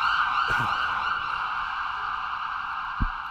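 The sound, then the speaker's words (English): A loud, steady emergency vehicle siren holds a sustained high wail throughout, with a couple of brief low thumps or bumps in the background and no one speaking. “Seems like some extra stuff today in that siren.”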